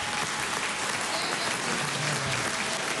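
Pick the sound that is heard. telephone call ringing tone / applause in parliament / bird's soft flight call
applause in parliament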